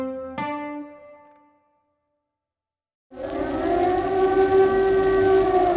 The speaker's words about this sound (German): In den Abendstunden des 13. Februar 1945 heulen in Dresden die Sirenen.